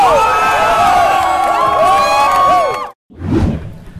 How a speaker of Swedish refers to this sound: Alltså jag hörde lite mer jubel för beatboxmannen här borta och lite mer jubel för supernovan här borta. Men resultatet är beatboxmannen.